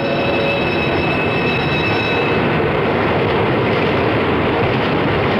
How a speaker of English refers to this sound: they stamp their feet against the cold, they exchange idle small talk, till the big shiny electric cars skitter to a stop along the platform, and they scatter aboard and scramble for seats.